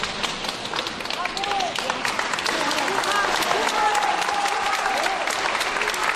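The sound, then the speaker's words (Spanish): A crowd gathered outside the courthouse in Avignon, France, applauds steadily as Giselle leaves the trial, with people bringing flowers; dense overlapping claps at a constant loud level throughout, with a few voices calling out over the clapping. “Después de escuchar a su marido, Giselle abandonaba los juzgados entre aplausos y flores de las personas que se reunieron para acompañarla y para decirle otra vez que no está sola.”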